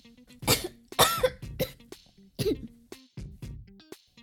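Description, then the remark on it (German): A fit of harsh, repeated coughing, about eight or nine sharp bursts in an uneven rhythm, some strained and raspy, with gasping breaths between them, as someone chokes on a drink sipped through a straw. “Ich konnte nicht verhindern, dass ich mich verschluckte und knallrot wurde.”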